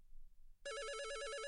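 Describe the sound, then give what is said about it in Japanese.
A room telephone starts ringing abruptly after a moment of near silence, its electronic warble trilling steadily and loudly, with no voices over it; it is probably a call from the front desk asking whether to extend the stay now that the time is up. “あ、多分フロントからですよ。時間終わったから延長するかしないかの電話ですね。”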